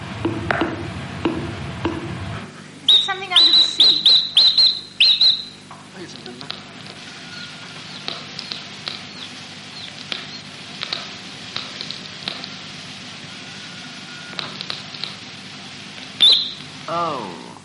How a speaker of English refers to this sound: It's some creature. It's chicken tiny. Cracking its way out of the egg.